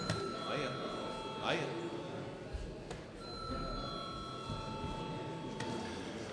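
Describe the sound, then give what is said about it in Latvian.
The chamber bell of the Saeima, the Latvian parliament, rings before a vote with sustained, bright metallic tones, struck several times over a few seconds, while a low murmur of voices and rustling continues underneath. “Lūdzu zvanu.”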